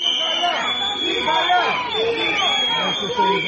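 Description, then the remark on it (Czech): A dense crowd of citizens and activists from several local movements in Serbia clamors with overlapping voices, shouts and chanting, protesting proposed changes to the land expropriation law, while sustained high-pitched whistles shrill steadily above the din. The noise stays loud and continuous throughout. “Uz pištaljke i skandiranje, građani i aktivisti više lokalnih pokreta pozvali su narodne poslanike da glasaju protiv predloga izmena zakona o eksproprijaciji zemljišta.”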